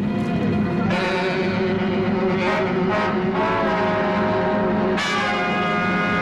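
vehicle, train approaching

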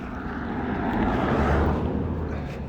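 vehicle, car driving past

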